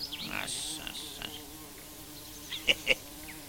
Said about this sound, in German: Was da summt, ist nicht der Baum, sondern die Wespen, die darin wohnen.